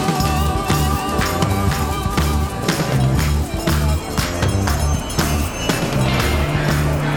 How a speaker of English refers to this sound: Here comes that train.